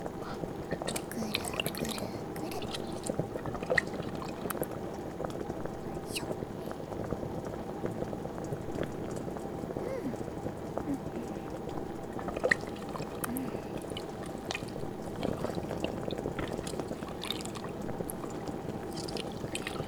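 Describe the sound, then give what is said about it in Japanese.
A pot of dashi broth simmers over high heat while ingredients are stirred through it slowly, a steady bubbling wash broken by a couple of sharper clinks against the pot. “お出汁のプールにきちんと浸かったら、強火でこのままゆっくり混ぜ混ぜよ。”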